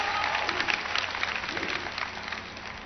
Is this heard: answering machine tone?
no